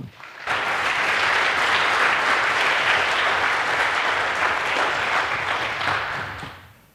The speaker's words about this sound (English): So please give a very warm round of applause